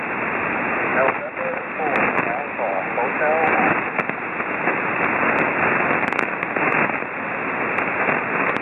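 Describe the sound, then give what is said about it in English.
Dense, crackling ham radio static fills the band continuously, with a faint, garbled voice of a calling station barely rising through the noise and occasional sharp clicks and pops. “I know it's in November 4, but that's as much as I can hear from the static.”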